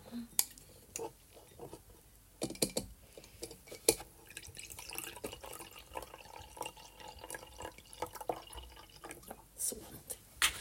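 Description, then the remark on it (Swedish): Wine trickles into a glass as a person pours some for themselves, in a quiet, uneven pour with soft splashing, light drips and small clinks, while faint murmuring is heard in the background. “Jag är så fräck så jag häller upp till mig själv här nu först.”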